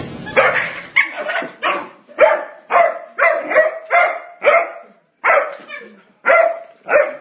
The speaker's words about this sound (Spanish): Así suena un perro libre de las mañas de su dueño.